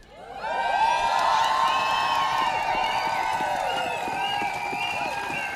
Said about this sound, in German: Und heute schreien wir für eine Zukunft ohne Feminizide.